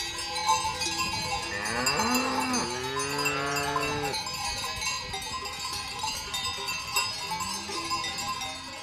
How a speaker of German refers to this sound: Kühe und Kälber dürfen raus.